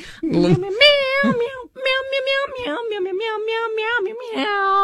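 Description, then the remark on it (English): A person sings a tune made entirely of cat-like meows, a loud string of drawn-out syllables rising and falling in pitch, one voice imitating a cat. “Meow, meow, meow, meow, meow, meow.”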